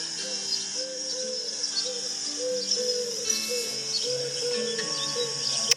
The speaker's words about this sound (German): Die ersten Tauben gurren ihre ersten Lieder im Frühling.